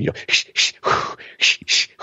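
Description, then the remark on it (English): A person demonstrates Lamaze-style breathing: a quick run of about seven short, breathy puffs in a steady rhythm, with brief pauses between them and no words. “So I take a few slow breaths and I'm really trying to seethe myself down, or or I'm walking down the aisle, or Lamaze breathing, right?”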